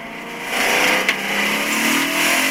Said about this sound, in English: Car racing interior. This is it here.